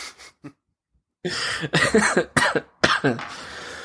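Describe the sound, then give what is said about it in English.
A series of harsh coughs, a couple of small ones first, then a louder fit of rough hacking bursts with brief pauses between them. “No more coughing on the show.”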